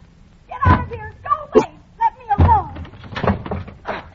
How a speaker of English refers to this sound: Open this door. Open it, I say. I'll never open it. Get away. All right, and I'll break it down.